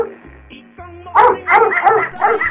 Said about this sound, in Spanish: En ese momento, Ana, muy nerviosa, no sabe qué hacer y el perro comienza a ladrar.